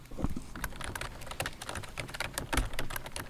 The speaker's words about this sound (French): Ça serait pas le clavier ? Attends, le son. Clavier 2. D'ordinateur. Ouais, en même temps, c'est ça. Bon. Clavier d'ordinateur.